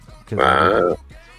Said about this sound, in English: And I'm burping. There you go. The smoky burp.